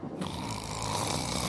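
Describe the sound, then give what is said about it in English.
A fat man, the keeper, snoring in the corner among cages marked property of the Mumbai Circus: one long, rough, rumbling breath that holds steady for its whole length, loud and alone with no talking. “And that's a fat man snoring in the corner.”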